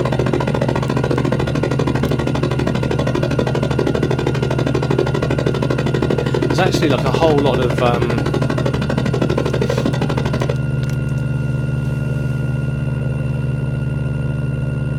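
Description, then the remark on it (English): A loud, steady helicopter main rotor chops rapidly over a deep engine drone as one layer of a helicopter sound mix, filling the whole stretch before thinning to a smoother hum near the end, with brief talk over it. “And here's what most people associate with the helicopter sound. Our main rotor sound.”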